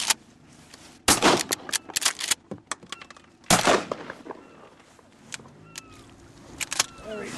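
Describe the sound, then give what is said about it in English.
Two loud, sharp gunshots fired by a University of Alaska researcher at a pelagic cormorant ring out a couple of seconds apart, each a sudden crack with a short rumbling tail, amid quieter scattered clicks and faint chirps. “It's a pelagic cormorant. Causey lifts up his gun and takes aim.”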